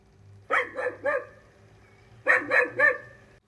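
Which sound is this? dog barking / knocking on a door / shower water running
dog barking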